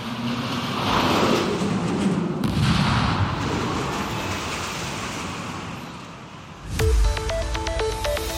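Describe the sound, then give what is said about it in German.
A single loud, deep bang from a technical defect during a roller coaster test run at the Nürburgring leisure park hits near the end, after several seconds of steady roaring rumble like wind or rushing air, and plinking musical tones follow it. “September im neuen Freizeitpark am Nürburgring hatte es wegen eines technischen Defekts einen explosionsartigen Knall und 7 verletzte Arbeiter mit Ohrenschmerzen gegeben.”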